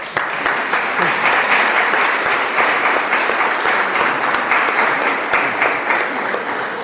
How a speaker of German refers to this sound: das ist jetzt deine Gemeinde und die heißt dich jetzt mit großem Applaus willkommen.